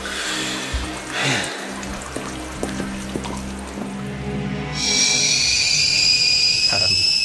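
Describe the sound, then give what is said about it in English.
Water bubbles and drips over a low steady hum, then a sharp, sustained high-pitched whistle rises in and holds loudly to the end, like a kettle coming to the boil: water boiling for a cup of tea. “Father Abbott, the boiling water.”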